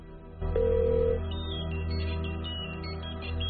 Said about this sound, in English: The mobile in his pocket's ringing.